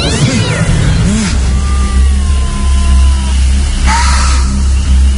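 A cat meows a couple of times, its short wavering cries rising over a steady low engine rumble that runs through the whole clip, with a faint whistle-like tone drifting in the background.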